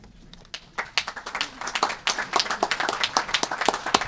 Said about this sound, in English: Now, let's applaud for this remarkable achievement.